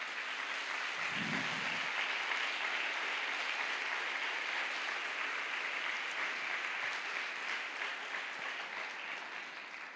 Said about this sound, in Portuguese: Pode aplaudir Jesus.